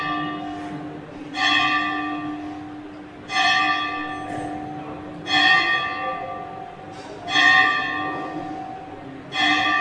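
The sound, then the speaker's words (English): A church bell tolls slowly and steadily, struck about five times at even two-second intervals, each rich, ringing peal lingering and blending into the next. No voices are heard. “For whom does the bell, what is that?”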